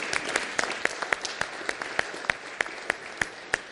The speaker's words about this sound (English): How about a round of applause for those ladies?